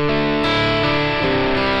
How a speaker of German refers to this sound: Und wie gesagt, der Vorteil da ist halt einfach, dass deine Effekte nicht verzerrt werden und sauberer bleiben. Das ist jetzt auch Hall vorm Amp. Ich drehe mal den Mix ein bisschen auf, um es deutlicher zu machen.